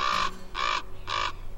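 Three harsh, raspy caws from a crow-like black bird, evenly spaced about half a second apart, loud, with no talking.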